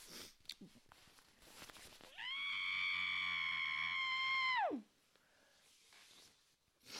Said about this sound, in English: I mean, I need to scream. I'm also in a manic state, like I just said, but I need to just...